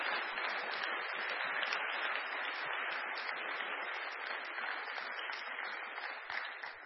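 Sustained applause from an audience, a dense, steady wash of clapping that holds loud for several seconds and tapers slightly at the end, with no voices over it.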